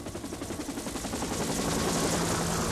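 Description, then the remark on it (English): A police helicopter of the LAPD, flying over Los Angeles, thumps its rotor in a fast, steady chop with a broad roaring wash, holding fairly loud throughout as it passes overhead. No voices. “In a lot of these films, really dramatic scenes are punctuated by shots of the LAPD helicopters probing the urban grid with their searchlights.”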